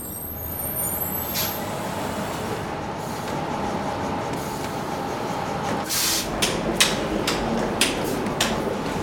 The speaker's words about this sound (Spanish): ¿A qué hora llega el autobús? Llega a las 2, en unos minutos. Ah, ahí viene un autobús.